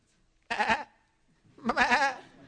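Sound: sheep bleating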